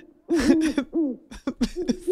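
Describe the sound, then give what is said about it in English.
A person imitates an owl, giving a string of breathy, throaty hoots in quick, uneven bursts, with no other talking. “By the way, we received a tweet that indicates that we're driving at least one dog nuts with our with our owls hooting.”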